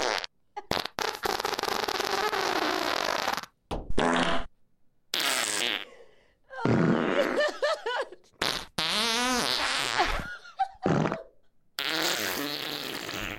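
A rapid string of recorded fart sound effects, loud and close, one after another with short gaps: wet sputters, long buzzing rips and squeaky rising tones, with no talking.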